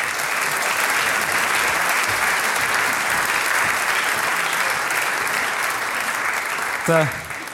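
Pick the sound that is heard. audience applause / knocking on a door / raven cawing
audience applause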